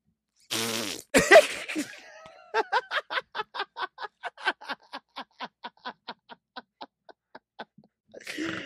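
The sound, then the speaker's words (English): A voice imitates a fart by blowing through the lips: a sputtering burst, then a long train of short, evenly spaced puffs that gradually fade and slow. “Oh, that was the best mouth fart sound ever.”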